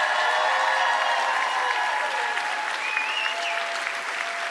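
A crowd claps steadily for several seconds, a dense, even wash of applause at constant loudness, with a few faint tonal whistles or cheers rising above it.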